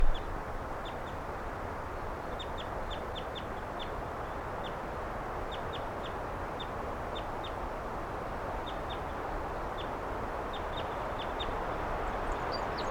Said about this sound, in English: Wild bird. And the birds, some of the wild ones came right here and wanted to perch on the microphone.